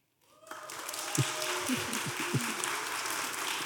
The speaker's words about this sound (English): Okay, I want to gauge what the audience thinks the answer is. So we're going to go, you're going to vote by applause.